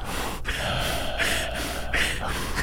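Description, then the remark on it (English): A person mimics heavy, labored panting, with loud rhythmic gasping breaths repeating steadily for a few seconds, as if badly winded from walking from a car to a door. “This is my impression of you walking from your car to your door.”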